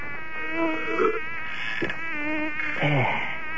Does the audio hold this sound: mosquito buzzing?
yes